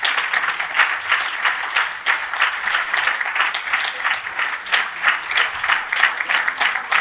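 A crowd applauds steadily for all the carnival groups at a Carnival event, a dense, even wash of many hands clapping at once with no voices on top, holding a fairly constant loudness throughout.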